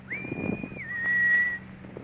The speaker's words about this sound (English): you can just go ahead and whistle. At least until the professor hears you.